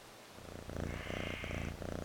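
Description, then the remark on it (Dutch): A steady cat-like purr, low and rumbling with a gentle rhythmic pulsing, lasting about two seconds with no voices: the little lamb Lambert purring like a kitten as Mrs. Sheep cuddles him. “Lambert spint als een poesje.”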